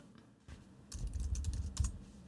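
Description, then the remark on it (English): A salad spinner whirs into motion after a quiet start, a rapid run of ratcheting clicks over a low rumble, fairly loud and lasting about a second and a half with no voices. “On the salad spinner, sounds like a salad spinner.”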